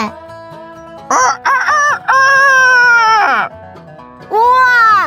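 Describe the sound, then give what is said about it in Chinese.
A rooster crows loudly, a few short rising calls leading into a long drawn-out crow that falls away at the end, then another crow begins, over a faint steady background. “公鸡在叫耶，早安， 就像起床在打招呼一样。”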